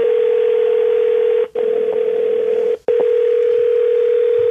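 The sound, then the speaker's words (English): A telephone ringing tone on an outgoing call: a loud, steady mid-pitched electronic tone that cuts out twice for a split second before resuming. No one speaks. “How many rings he got?”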